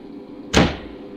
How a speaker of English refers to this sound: All right, now shut the door.